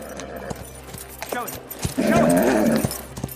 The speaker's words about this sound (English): Cole's horse trots through the gate.